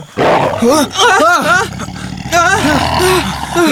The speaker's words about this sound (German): Ein Tiger. Und was für einer. Dafür das Gitter also.